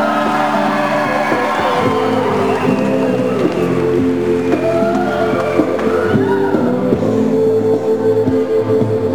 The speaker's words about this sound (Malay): Berikan tepukan kepada Datuk Dr. Jim Samsudin.